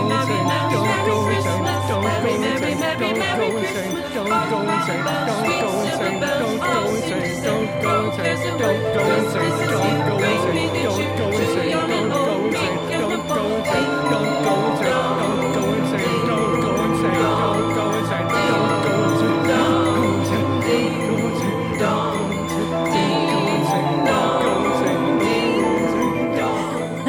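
An instrumental holiday carol rings out on chiming, bell-like tones over a steady, repeating bass line, playing at an even, fairly loud level for the whole stretch with no voices.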